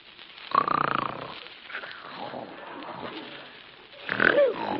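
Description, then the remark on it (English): A woman snores loudly while asleep in a luxurious boudoir, in heavy, rasping bursts with a snorting, piggish quality, two strong snores framing a quieter stretch of breathy rumbling. “Madame, you are snoring.”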